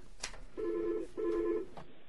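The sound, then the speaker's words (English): An incoming phone call from a caller on line one rings: two short electronic ring tones in quick succession, bracketed by faint clicks, clear with no one speaking. “They're we do have a caller on line one, at least.”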